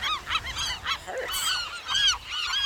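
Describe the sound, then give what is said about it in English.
A western gull calls over and over in loud, harsh, nasal squawks while dive-bombing people, with bursts overlapping and rising in pitch, and no voices in between. “Western gulls nest on the ground above rhinoceros auklet burrows.”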